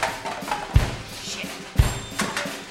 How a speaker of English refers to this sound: I bang on the door, but you won't let me in.